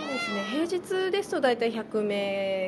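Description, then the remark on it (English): A cat meows repeatedly in a busy cat cafe holding about 20 to 30 cats and about 10 people, a string of drawn-out, pitch-sliding calls with short gaps between them, fairly loud and clear over a quiet background. “There are about 20 to 30 cats in there, and there's about 10 people in here.”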